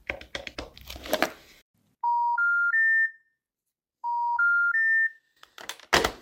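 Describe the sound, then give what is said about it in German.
A phone rings twice, each ring a clear electronic pattern of four rising tones, with a pause between. No voice picks up. Crackly rustling comes before, and a short noisy burst follows at the end. “Und wir finden auch eine Telefonnummer.”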